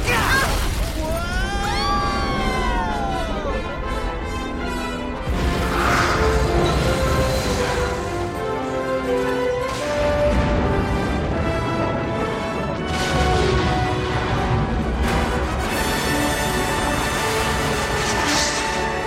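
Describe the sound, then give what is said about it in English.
Loud cannon blasts as a cannon fires and a barge explodes in a big explosion, crashing through a dense, continuous wall of sound, with sweeping whooshes, rumbling booms and dramatic music layered throughout. “Once that cannon fires, this barge is a goner.”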